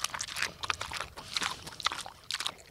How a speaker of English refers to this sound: Back at the farm, the resident pigs happily clean up whatever produce isn't fit for the chickens.